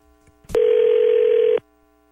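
A sharp click, then a single steady telephone ringing tone holding one mid pitch for about a second before cutting off abruptly, as the morning show of radio station 102.9 The Wolf places a call. Loud and alone, with no voices.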